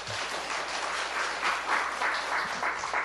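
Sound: audience applause of thanks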